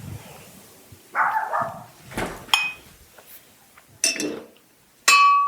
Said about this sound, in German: Wenn die Nachbarhunde bellen